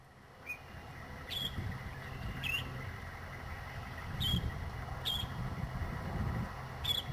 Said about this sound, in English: Sure, and maybe you'll hear them. Let's listen to what a northern shrike sounds like.